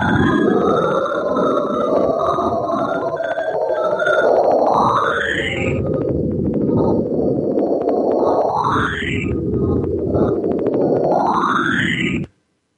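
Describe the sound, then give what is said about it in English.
A space radio signal from the Cassini website, raised in pitch by 12 tones in Cool Edit Audio Editor: a dense, buzzing roar with rising whistle-like glides that sweep upward about three times, then stops abruptly. Each tone is said to come from a meteorite hitting ice rings. “The same radio signal now raised in pitch by 12 tones in Cool Edit Audio Editor.”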